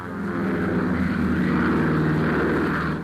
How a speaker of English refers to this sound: December 2nd, Saigon, Luang Prabang, Vientiane. Mode of travel, plane.